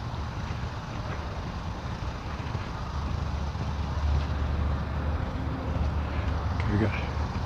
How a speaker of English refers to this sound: Cars and workmen.